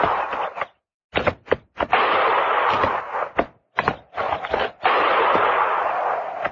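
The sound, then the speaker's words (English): A ragged volley of gunfire from a range of low hills about a mile to the north: several sharp, cracking shots at irregular intervals, some in quick pairs, with a rough rushing rumble filling the gaps between them. No voices are heard. “Didn't sound like no regular shooting.”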